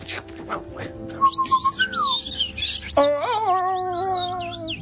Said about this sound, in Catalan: Hi havia ocells